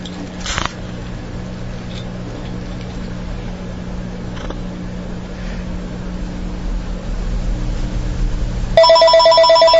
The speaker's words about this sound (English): Phone ringing. Phone ringing. Very good.